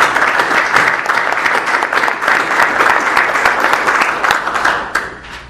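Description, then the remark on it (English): An audience at a public meeting applauds steadily for a group of honorees, including the police chief marking 35 years of service, a dense wash of many hands clapping at once, holding a fairly even loudness for about five seconds before tapering off at the end. No one speaks. “How about a round of applause for these guys?”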